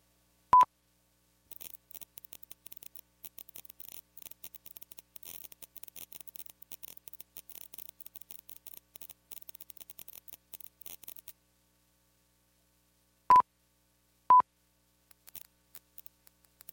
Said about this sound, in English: Listen now to a steady sine tone at 17.4 kHz and its modulated version, oscillating between 17 and 20 kHz at 3 times per second. The pips indicate that the sound is about to play.